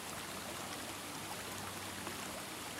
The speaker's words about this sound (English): See a beautiful waterfall before you. Its water molecules are charged and energized just for you. It's alive. It's living. How does it sound?